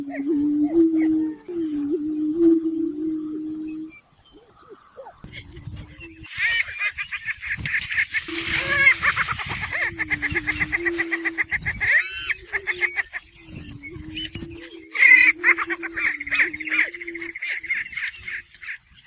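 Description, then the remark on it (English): Prairie chickens call in a lively chorus: low, hollow booming moans repeat steadily beneath loud bursts of high cackling and whooping chatter, with several birds sounding at once. “Would you recommend going down to see the prairie chickens?”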